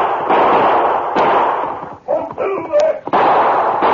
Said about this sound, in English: He spurred his horse frantically, but his pursuers kept gaining on him until finally they were within shooting range. Snatching his gun, he turned in the saddle and fired.